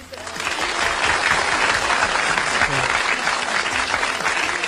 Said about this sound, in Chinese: 掌声啊，鼓掌啊。